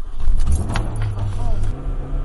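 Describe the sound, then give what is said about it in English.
The engine of Debunka's car starts up on a rainy day and settles into a steady low rumble, with a few brief clicks and rattles near the start. “So I went out and I got in Debunka's car, figuring out how to turn the car on.”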